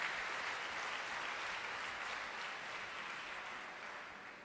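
Sustained crowd applause during a sermon, the audience clapping in praise of the Lord Jesus: a dense steady patter of many hands clapping with no voices over it, holding strong throughout and easing slightly toward the end.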